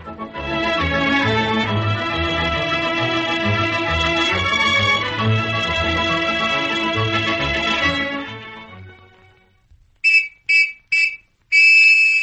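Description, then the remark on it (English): Orchestral music plays and fades away, then a shrill police whistle sounds a hurry-up signal: three quick, loud blasts followed by a longer sustained one, urgent and on its own. “Did you get that hurry-up signal, fellas and girls?”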